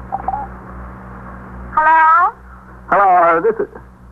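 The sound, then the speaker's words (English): Two buzzy, tinny ringing tones come over a telephone line, about a second apart, over a faint steady hum, with a quiet pause before the first ring. “They're ringing.”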